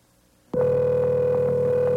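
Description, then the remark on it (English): A telephone rings on an outgoing call placed from the DC 101 radio station in Washington: a steady electronic ringback tone cuts in abruptly and holds loud and unbroken to the end, with no one speaking. “He's probably having to limp his way to the phone in agony.”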